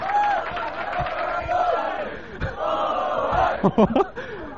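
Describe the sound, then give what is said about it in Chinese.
A large audience claps and cheers in a steady, dense roar, with scattered shouts and whoops rising above it near the end. “唯有咁樣先 cut short 你哋拍手掌。”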